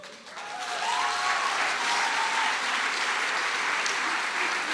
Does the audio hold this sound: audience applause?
yes